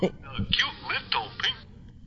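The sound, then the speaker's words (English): A short cartoon-style sound effect, a little WAV file, plays as a phone ringtone: a quick run of squeaky, warbling high-pitched chirps and swoops lasting about two seconds, clear, before it cuts off. “I got a bunch of Looney Tunes sound effects that I use as ringtones.”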